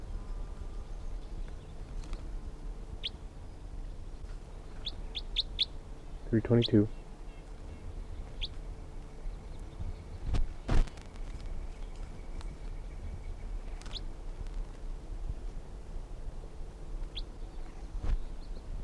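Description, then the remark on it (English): Scattered high chirps and short calls from several birds of a flock, calling from the trees while others are caught in a net, come in sporadic bursts over a steady low background hum, with one louder, rougher call standing out partway through. “There are 15 birds in the net, and a lot of them, the rest of them are up in the trees calling”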